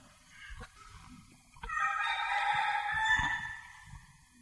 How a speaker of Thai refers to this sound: ไก่ตัวนี้เสียงดังดัง